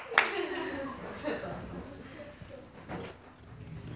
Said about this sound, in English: might as well clap, because this is a grand entrance.